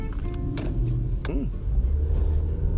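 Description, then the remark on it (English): A car's engine rumbles steadily, a low continuous drone with a brief rising-and-falling squeal partway through and faint murmuring voices in the background. “There's another car.”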